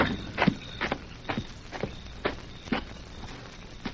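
Hoofbeats from two riderless horses approaching a camp clop in a steady, even rhythm, each beat a sharp, hollow knock repeating roughly twice a second, moderately loud over a faint background hiss with no voices.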